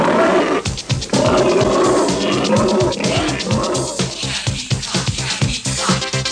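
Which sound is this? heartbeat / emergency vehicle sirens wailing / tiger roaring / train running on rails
tiger roaring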